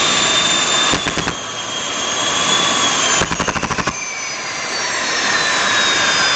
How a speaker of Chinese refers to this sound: 就这样，发动机里面的空气啊，它一会儿往前一会儿往后开始晃荡，就跟你感冒咳嗽一样，吸气吸了一半又猛烈的给退回来了。而且你听，伴随的还有震动。同样的，压气机失速之后，发动机它就和人的咳嗽非常像，吸一口吐一口。